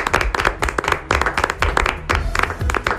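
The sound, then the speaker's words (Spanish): A crowd applauds steadily, many hands clapping densely and loudly for a few seconds with no voices standing out, giving a round of applause to the broadcast's technicians. “Un aplauso para nuestros técnicos, que se lo merecen, claro que sí.”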